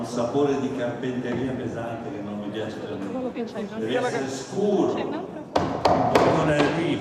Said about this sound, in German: Das klingt nach einer Zimmerei, sagt Riccardo Chailly hier zu einem Bühnenarbeiter über den Schlag eines Hammers. Es muss ein dunkler, dumpfer Klang sein, doppelt so stark. Ja, so.